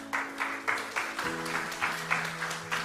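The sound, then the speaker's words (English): A church audience claps together in a steady rhythm, about two claps per second, over sustained low musical tones. No one speaks. “And that's the bit you clap.”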